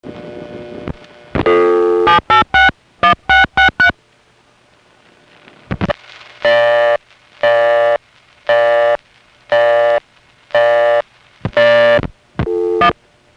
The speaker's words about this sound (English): Here's a local busy, then a ringing number.